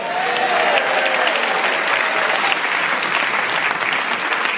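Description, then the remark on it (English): A crowd applauds steadily, a dense, even wash of clapping that holds at a constant loudness throughout, with no voices over it. “It's a recipe for getting a cheap laugh and a round of applause.”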